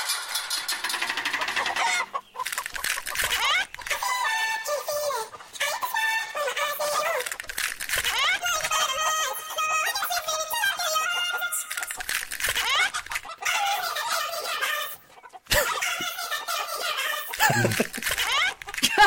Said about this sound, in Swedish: Många låtar som blir bättre i en kycklingsversion. Vad sjukt det där var.